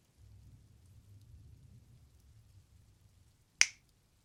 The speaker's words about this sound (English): Why did you just snap your fingers? You have an idea?